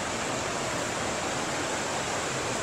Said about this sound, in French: donc là c'est la rivière.